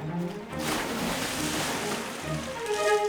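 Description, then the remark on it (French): Sea waves wash and splash steadily at a small beach between rocks, a broad rushing surge of water, with a few brief tonal glints near the end and no one speaking. “Jouer dans les vagues, c'est rigolo.”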